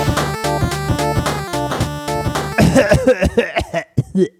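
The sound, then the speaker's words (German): Rhythmic music plays for a couple of seconds, then gives way to a run of short, loud, rough bursts that sound like coughing, coming in quick irregular fits. “Du hast das Husten diesmal gar nicht gehört, ne?”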